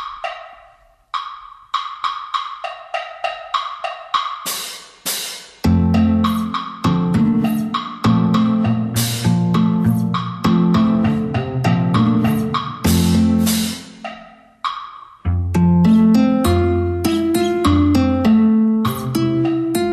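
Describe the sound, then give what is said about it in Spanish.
Live instrumental music of bright plucked bouzouki and ukulele playing quick repeated notes over a steady low bass line, with brief hissing rain stick swells near the start. “Hay música en directo, canciones en vivo, incorporáis instrumentos, digamos, singulares, palos de lluvia, buzuki, ukelele”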